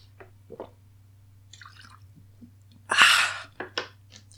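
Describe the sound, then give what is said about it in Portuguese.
Quiet mouth sounds of someone taking a quick sip of water: small wet clicks and slurps, then a louder gulp and swallow, over a steady low hum. “Eu vou dar só um gole d'água e não vou editar, não. Você vai ouvir meu gole d'água”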